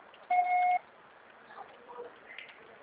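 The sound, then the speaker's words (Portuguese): A single loud voicemail beep, a steady mid-pitched tone lasting about half a second, followed by faint background hiss and soft indistinct noise. “Grave seu recado agora.”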